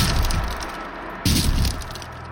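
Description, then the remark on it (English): A door bursts open with a loud, splintering crack, a sharp heavy impact followed by rattling, with no voices present. “I lay in bed, unable to move, when the door crashed open.”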